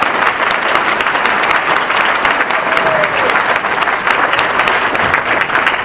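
A crowd applauds steadily for a woman's hard work all year, dense overlapping claps forming a loud, even wash of sound that holds throughout without pause or voices.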